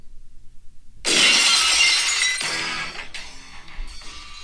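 Glass shatters with a sudden loud crash, followed by a few seconds of tinkling and clinking shards settling, with a couple of smaller crunches near the end. No one speaks.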